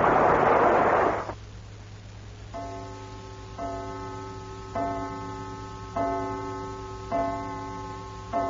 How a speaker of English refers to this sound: Great heavens, there's a chime. Already it's dinner time.